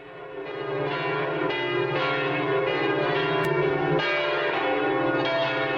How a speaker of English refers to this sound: But some of the cathedral's bells will soon be silenced. Experts say they're worn out, and that's raising quite a ruckus among Parisians. So name this cathedral. We'll do the honors as the bells toll.